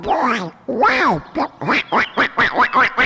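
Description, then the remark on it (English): A duck on a tiny pond surrounded by willow trees quacks loudly: two drawn-out, nasal quacks followed by a quick run of six or seven shorter, evenly spaced quacks. “There was a hedge of elderberries and a tiny pond surrounded by willow trees where a duck and some ducklings swim.”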